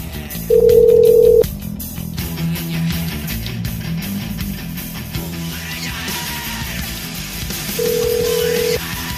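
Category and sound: household object, telephone ringing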